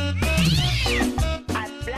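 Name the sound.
cat meowing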